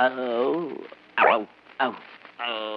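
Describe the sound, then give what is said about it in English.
A man's voice imitates a lion's growl with two short, rough, throaty bursts, framed by stretches of voiced speech before and after. The growls are fairly loud. “the lion at home. You growl once. Let's hear you do it again”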